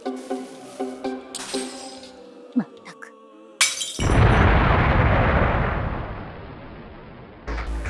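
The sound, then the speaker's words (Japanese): A sudden loud blast at mid-clip from an explosion incident in a city, followed by a sustained rumbling crash with shattering, breaking glass that slowly fades. Harmonic vocal sounds and a brief shout come before it. “今の次は動く死体、その次は爆発事件かよ。”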